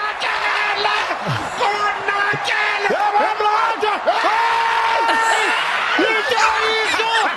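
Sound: crowd shouting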